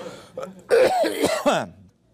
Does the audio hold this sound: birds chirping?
no